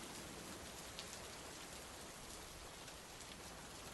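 Steady rain falls continuously with a soft, even hiss and faint scattered patter of drops, fairly quiet and unbroken throughout, with no voices.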